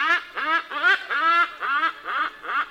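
A hornbill calls in a rapid run of about seven loud, nasal, honking notes, each rising and falling in pitch, with no voices present.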